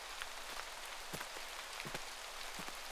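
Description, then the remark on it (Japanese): Steady rain pours down in cold weather in a dense, continuous hiss, with occasional heavier drops tapping on a hard surface. No voices are heard. “もしかして雨宿りですか？でしたら、こんな寒いところではなく、あちらのお城で雨宿りしていきませんか？”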